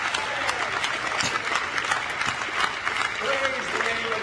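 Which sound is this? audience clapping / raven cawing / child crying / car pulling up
audience clapping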